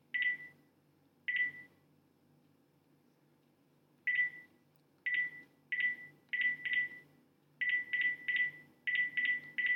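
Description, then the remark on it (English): A series of short DTMF keypad tones beeps out as a mobile phone number is dialed on a landline phone, single presses at first and then quicker bursts in an uneven rhythm, clear over faint background hum. “So I'm going to type in my number on my landline phone now.”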